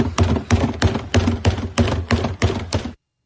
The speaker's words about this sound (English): Trash can banging.